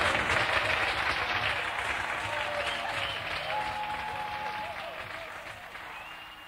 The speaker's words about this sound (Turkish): Evet, ve kadife sesli … hanımefendiyi huzurlarınıza davet ediyorum efendim. Evet, …'ı lütfen alkışlarınızla huzurlarınıza davet ediyorum.